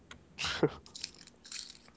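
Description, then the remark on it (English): Someone crunching on hard candy: a loud, crackly bite followed by a few softer, scattered crunching and chewing sounds, with no talking. “Besides the person eating the hard candy?”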